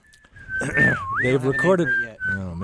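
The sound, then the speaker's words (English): A clear whistled melody by a pianist and a bassist, from their new CD, holds steady notes and swoops down and back up in pitch, carrying on for a few seconds over a murmuring voice underneath. “Otherwise, you can hear them whistling on their new CD.”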